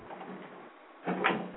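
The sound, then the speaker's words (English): A bathroom door is lifted and shoved shut with a brief scraping rasp and a dull thud near the end, moderately loud, after a stretch of low room noise. “Man, my fucking bathroom door. Like, I literally had to physically lift it up in order to close it.”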